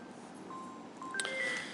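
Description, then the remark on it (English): A speaker's mobile phone goes off during a talk, ringing with a short run of clear electronic tones, each beep stepping to a different pitch, sounding alone over a faint background hiss. “Bit embarrassing when the speaker's phone goes off, isn't it?”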